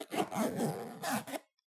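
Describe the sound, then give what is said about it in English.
The zipper of a leather boot is pulled up in two quick rasping strokes, a longer drag followed by a shorter tug, then silence. “Now pull it up. Come on, I know you like the zipper sound.”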